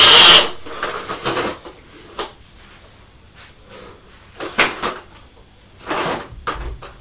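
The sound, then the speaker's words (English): A toy push lawnmower clicks and clatters in irregular bursts, with sharp plastic rattles and brief quieter gaps between pushes. “The lawnmower makes a noise, doesn't it?”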